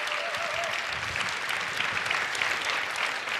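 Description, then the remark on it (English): Steady audience applause after a presentation fills the whole stretch, a dense, even wash of many hands clapping at once with no voices standing out. “Applause, applause, applause, applause.”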